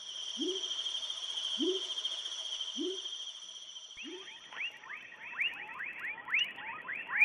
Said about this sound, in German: Das hier ist Leptodactylus fuscus aus der Familie der Pfeiffrösche. Und ja, wie die Laute schon verraten, riesig ist er nicht. Er ist nur 4 cm groß.